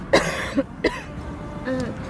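coughing

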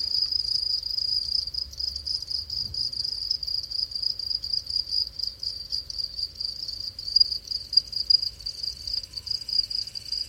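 cricket chirping

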